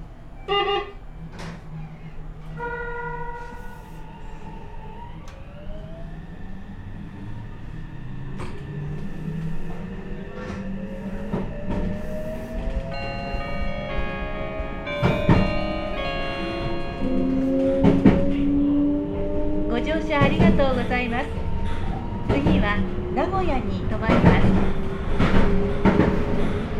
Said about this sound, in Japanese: 電車が発車します。ご注意ください。 ご注意ください。ドアを閉めます。ご注意ください。